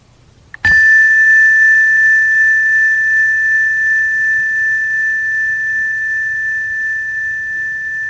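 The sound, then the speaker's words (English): A single bell is struck once and rings out loudly, its bright metallic tone sustaining and fading very slowly over several seconds with no other sounds or voices; it is played over a screen share during a meditation session. “that bell work?”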